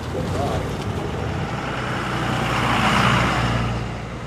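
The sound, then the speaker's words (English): A big semi truck's diesel engine rumbles, jackknifed in the middle of an intersection, its steady low drone swelling louder midway as the young driver moves the rig back and forth trying to straighten it, over a wash of street noise. “The young driver's now got the truck jackknifed in the middle of the intersection. He's moving it back and forth trying to fix that.”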